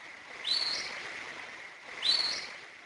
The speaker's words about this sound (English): So the whistle was very significant in the fact that it doesn't sound like any bird I've ever heard before.